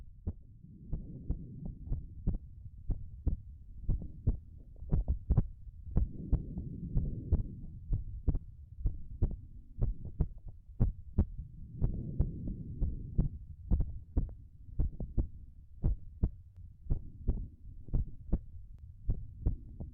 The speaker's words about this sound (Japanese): ママの心臓の音、さっきよりもはっきり聞こえるよね。